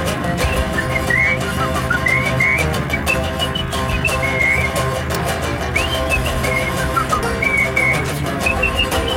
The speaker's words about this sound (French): Ou alors sifflez.